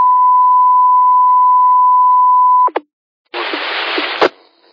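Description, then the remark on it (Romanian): A loud, steady radio tone, which blocked an EchoLink connection, holds for nearly three seconds, cuts off with a click, and after a short silence a harsh burst of static hiss follows, then stops abruptly. “a avut și tonul un Q5, a reușit să-mi blocheze Ecolink-ul.”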